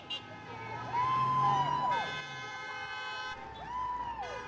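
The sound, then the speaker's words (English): Car horns honk over steady traffic noise on a busy thoroughfare, vehicles honking in support of hundreds of nurses in red holding signs and picketing over hospital staffing, with two long, loud blasts that bend slightly in pitch, separated by a brief pause. Faint voices murmur underneath. “On the busy thoroughfare, vehicles honked in support of hundreds of nurses holding signs and dressed in red who were picketing to garner support for their work at the hospital.”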